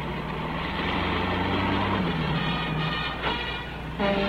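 A diesel London taxicab, driven by racing driver Graham Hill, drives along with a steady engine rumble and road noise, the pitch of the motor shifting slightly as it moves, with no voices.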